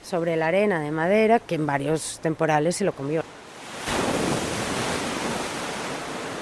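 A voice talks briefly, then a steady, fairly loud roar of waves washing onto a beach takes over, a continuous rushing surf with no break in it.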